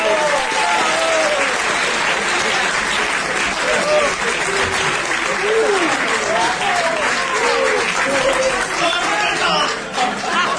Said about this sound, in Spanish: Un aplauso para